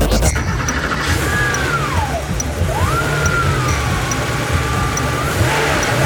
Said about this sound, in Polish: Tak brzmi dźwięk silnika Porsche 911.